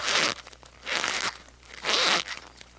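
A cornstarch box squeezed three times in a slow, even rhythm as a sound effect for footsteps in snow, each press a dry, gritty crunch, with short quiet gaps between.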